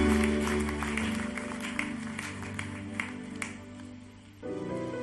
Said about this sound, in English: Clap your hands and bless the name of Jesus.